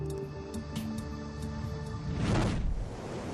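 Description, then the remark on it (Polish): A single heavy winter storm wave surges in and crashes against the shoreline at the Cape of Good Hope with a broad roaring wash. It rises out of a steady bed of sustained orchestral music before receding. “Wściekłe fale zimowych burz raz po raz uderzają o linię brzegową.”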